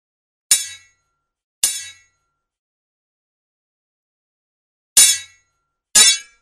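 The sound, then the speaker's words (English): Four sharp metallic clangs of a sword ring out with bright, shimmering decay, two close together early on, then a long silent gap before two more strikes. “It's a sword, as a matter of fact.”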